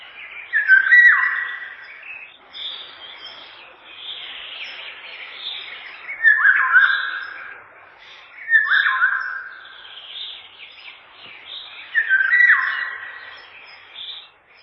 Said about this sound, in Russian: И вот все успокоилось в лесу. Поет Иволга. Повторите вслух это слово. Иволга. Не правда ли? В нем что-то отдаленно напоминает ее песню.